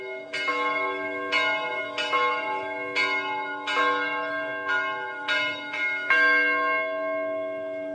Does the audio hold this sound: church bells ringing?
yes